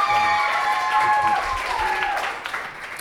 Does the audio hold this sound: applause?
yes